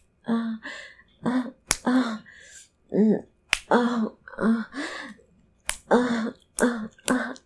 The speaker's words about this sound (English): Can you hear it? You wanna hear me slap it on my clit?